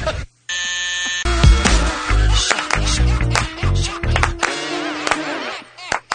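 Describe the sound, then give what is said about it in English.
A loud song with buzzing synth tones and a heavy beat, punctuated by sharp double claps that land in quick pairs through the rhythm. “That is the dreaded double clap on that song.”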